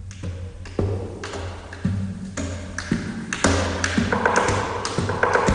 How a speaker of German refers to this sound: Auch das kann Gitarre sein. Da klopfen sie erstmal auf die Gitarre, bevor dann ganz normal gezupft wird.